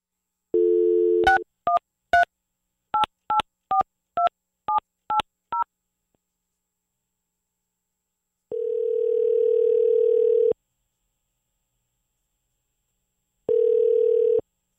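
A brief dial tone, then a quick run of about ten touch-tone beeps as a phone number is dialed to call a contest's grand prize winner. After a pause come two long ringback tones with a gap between them, clear and with no voices.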